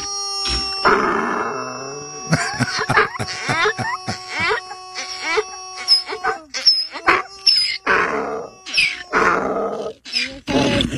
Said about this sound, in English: It is a big blue screaming chicken.